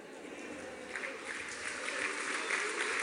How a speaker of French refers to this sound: J'ajoute que lorsque vous dites qu'il faut travailler plus longtemps, toute cette salle applaudit à tout rompre. Oui, donnez-nous du travail.